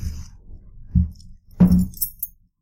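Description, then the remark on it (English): A set of four keys on a key ring with a small blue hook jangles and clinks as it is taken out of a box and handled, with a couple of soft knocks followed by a brief burst of bright metallic rattling. “I have a set of four keys, a key ring, and a blue little hook that they are attached to.”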